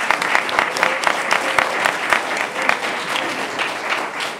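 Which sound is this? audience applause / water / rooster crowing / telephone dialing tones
audience applause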